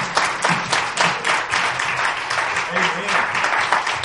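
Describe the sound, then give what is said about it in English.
An audience breaks into sustained applause in praise of Jesus, a dense wash of many hands clapping at once, steady and fairly loud throughout, with a few voices faintly mixed in beneath it. “If you love Jesus, give him a hand clap of praise.”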